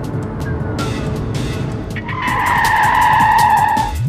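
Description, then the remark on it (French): A driverless, remote-controlled car's engine roars, then its tires let out a loud, sustained screech as the car skids past for nearly two seconds before the squeal cuts off. “regarde, il y a pas de conducteur dans cette voiture.”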